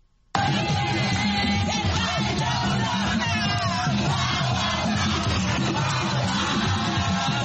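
crowd cheering

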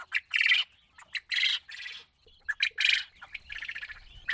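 domesticated quail birds calling

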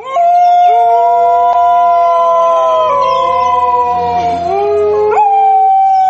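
dingo howling

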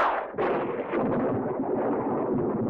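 thunder sound effect

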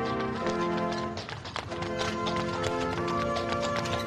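horse-drawn carriage hooves clip-clopping

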